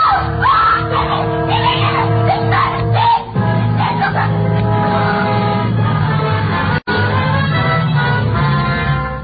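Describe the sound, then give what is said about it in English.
A woman screams loudly and almost continuously for several seconds, her voice wavering and straining, with only a brief catch partway through and a sharp cut near the end. “And suddenly she was screaming.”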